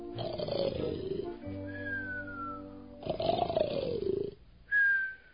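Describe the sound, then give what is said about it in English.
Loud, rumbling snores from an excited old king finally asleep at night, coming in two long breaths, each followed by a thin whistling exhale, with a brief sharp whistle at the end, alone. “It took Bartholomew a long time to get the excited old king to sleep that night, but finally he snored away.”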